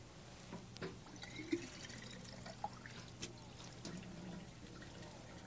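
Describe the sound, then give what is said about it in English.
Water pours steadily into a glass bottle, filling it the whole way full, a soft splashing trickle broken by a few brief drips and clinks, fairly quiet, with no one speaking. “Now I'll make it the whole way full.”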